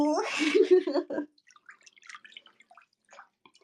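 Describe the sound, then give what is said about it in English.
A short burst of voice opens, then water drips and small splashes patter irregularly in a bath, fairly quiet, scattered across the remaining few seconds. “I love bath time.”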